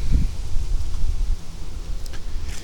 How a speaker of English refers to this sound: It's windy. Let me get into some wind cover here. Maybe this will help.